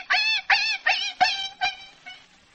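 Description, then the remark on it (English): A man's voice imitates Asta, the wire-haired fox terrier of the radio program The Adventures of the Thin Man, yelping in pain when his paw is stepped on: a quick series of about six sharp, high whimpering yelps that grow weaker and fade toward the end, with no other sounds. “Somebody steps on Asta's paw.”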